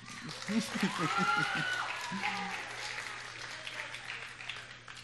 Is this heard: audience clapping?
yes